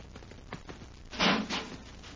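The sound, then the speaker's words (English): A heavy metal airlock door swings shut with a loud, broad thud and a quick second clunk after it, following a few faint knocks and low background rumble. “Hey, an airlock. Get in and close the door,”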